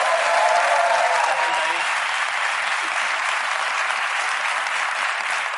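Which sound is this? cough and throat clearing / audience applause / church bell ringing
audience applause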